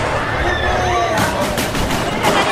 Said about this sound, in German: Dann fallen Schüsse.